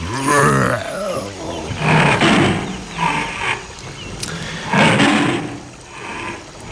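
A bear roars several times in deep, rough bursts separated by short pauses, loud, with a raspy growling texture between the louder calls.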